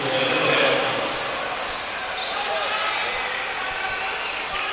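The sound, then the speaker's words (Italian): A basketball is dribbled by Blaye on a hardwood court before a three-point attempt in a Carpegna Pesaro game. The dribbles are partly buried beneath a loud, steady arena crowd roar, with faint voices mixed into the noise. “Benforth, palla per Blaye che ci prova da tre dal palleggio.”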